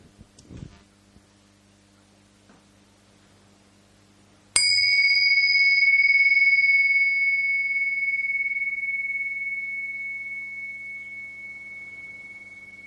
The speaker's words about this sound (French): On va commencer par un petit moment de présence partagée au son de cette cloche.